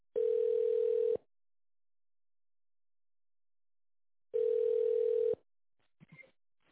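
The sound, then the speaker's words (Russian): A telephone line waiting tone on the phone line of the Bremen group of companies, medical equipment specialists: two long, steady, mid-pitched beeps about a second each, separated by a few seconds of silence, followed by a brief faint voice fragment. “Пожалуйста, оставайтесь на линии.”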